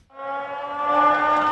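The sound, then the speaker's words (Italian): A steady, buzzy tone of the first Venice acqua alta (high water) warning siren holds a single pitch and swells a little louder as it sounds, alone for a second and a half. “Questa è la prima sirena.”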